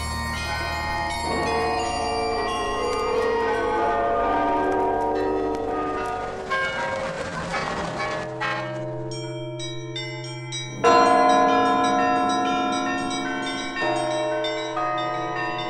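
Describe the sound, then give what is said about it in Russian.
The Kremlin tower clock chimes in Moscow ring out alone: several loud, resonant bell strikes whose rich overtones hang and overlap, with a fresh stroke every few seconds and no voices. “Первое упоминание башенных часов в Кремле относится к летописям времен Княжеской Руси.”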